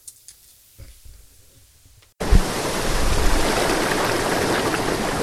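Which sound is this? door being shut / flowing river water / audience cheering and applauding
flowing river water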